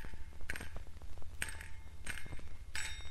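Five gold coins jingle in a pocket as someone walks along a road, in four bright metallic bursts spaced about every second like a steady walking rhythm, fairly loud over a low background hum. No one speaks.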